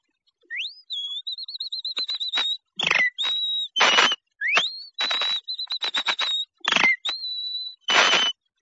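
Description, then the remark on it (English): A person whistles an imitation of a wren's early-morning song: quick rising slides into warbling, steady high notes, broken by sharp chattering chirps, repeated in several clear phrases with no talking. “The wren is a small bird that whistles early in the morning like this.”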